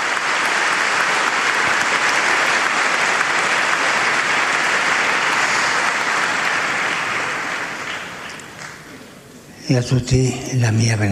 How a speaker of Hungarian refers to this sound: Egy nagy tapsot kér Ferenc pápa számukra.